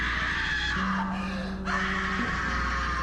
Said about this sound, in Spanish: No pasaron ni 30 segundos cuando en la calle se escuchó un grito desgarrador.